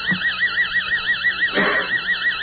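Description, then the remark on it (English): Theta brainwaves, picked up by electrodes on the scalp, amplified and converted to sound: a steady, warbling electronic tone that wobbles rapidly up and down in pitch, with a faint low thump early on and a brief noisy swell midway. “Now, the theta band, which the Menningers and Camilla and many other people have found the Elmer and Elise Green, is the band of creativity and accessing cosmic consciousness, sounds like this.”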